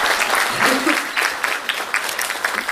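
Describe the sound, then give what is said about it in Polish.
An audience claps steadily, a dense patter of many hands that holds moderately loud for a few seconds, with a brief hint of voices underneath. “O, i są oklaski, jak fajnie.”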